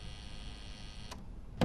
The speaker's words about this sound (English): I'll buzz you in. Thank you.